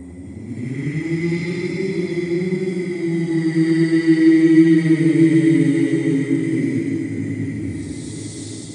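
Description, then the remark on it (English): Strong storm wind roars and moans steadily with a deep rumble, swelling into a louder gust midway before easing slightly, with no voices present. “Damn wind.”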